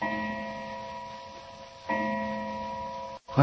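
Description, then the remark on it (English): A clock strikes two o'clock, two ringing bell tones about two seconds apart, each leaving a long, steady metallic hum that lingers before fading. No one speaks. “What's that? 2 o'clock, Doctor.”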